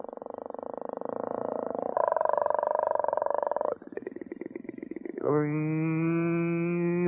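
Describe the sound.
A voice imitates an outboard motor, an outboard egg beater on the back of a boat, with a steady, buzzing drone that shifts pitch, breaks into a sputtering rattle, then settles into a loud, smooth humming whine. No talking.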